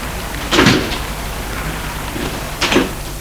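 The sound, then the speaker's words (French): A car door opens and then shuts about two seconds later as a man gets out of the car, stopped in front of an apartment building: two short thuds over a steady hiss of rain or background noise. “Il sort de voiture.”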